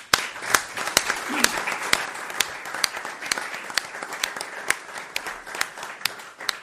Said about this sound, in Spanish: Ellos están ahí y me gustaría, con el permiso de todos los presentes, darle un caluroso aplauso y la bienvenida al Ayuntamiento de Cartagena, a todo el equipo que nos ha decidido acompañar aquí, claro que sí.